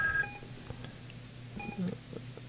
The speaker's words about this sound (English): Well, the call's not going through. I don't know. It's just ringing now, so